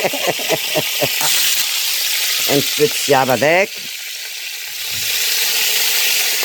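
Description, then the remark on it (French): Garlic, ginger, onion, thyme and salt sizzle in a pan with boucané for a curry, a steady, bright crackling hiss that runs under a man's speech, dips briefly partway through, then swells again. “Ça y est, ça pète.”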